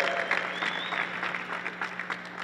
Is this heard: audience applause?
yes